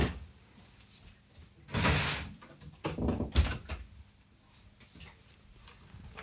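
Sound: door being closed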